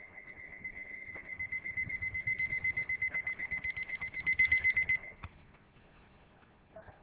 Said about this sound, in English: There is a little clock here. I've never seen it, but I'm going to bring it with me in case it goes off again.